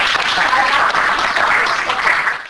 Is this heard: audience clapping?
yes